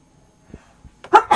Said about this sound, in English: Oh, excuse me. I'm sneezing now as well, aren't I?